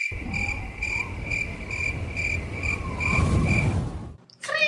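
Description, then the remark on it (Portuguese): A cricket chirps in steady, rapid pulses, a bright high trill repeating evenly over a low rumbling background, then cuts off abruptly near the end before a brief rising tone. “Isso, vai ganhar um grilo.”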